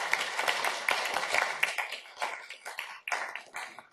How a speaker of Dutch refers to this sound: ik wil jullie nu vragen om te applaudisseren voor iedereen die iets heeft gedaan tijdens deze vergadering, wat deze bijeenkomst tot een mooie, leuke bijeenkomst maakte. Applaus voor jezelf.